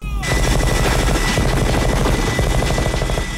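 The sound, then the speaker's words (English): A minigun called Painless, a gun designed to be mounted in a helicopter, fires in the rebel base scene of a Predator movie in a loud, unbroken burst lasting several seconds, its extremely fast shots merging into a dense, buzzing roar with a heavy low rumble underneath. “And we get to meet Painless, which is what they call the minigun.”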